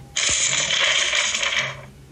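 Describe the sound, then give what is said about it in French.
A piece of paper being handled, crinkling and rustling in one continuous burst of about a second and a half, then falling quiet. No voices. “Donc un bout de papier déjà.”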